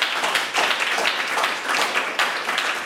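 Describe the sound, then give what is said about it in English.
A crowd applauds steadily for three young performers, including a violinist and a soprano, at a Young Artists Competition, many hands clapping in a dense, even patter that swells in a few brief surges and keeps going without a break; no one speaks over it. “So thanks to all three of you for being part of all of this, and I think they all three deserve another round of applause.”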